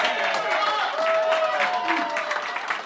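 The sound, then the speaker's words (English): A crowd applauds and cheers loudly and steadily for a man who has just finished the last sip of a drink, dense clapping mixed with shouts and whoops, filling the whole moment without a break. “Applause ever given yeah. for the least amount of anything, I feel.”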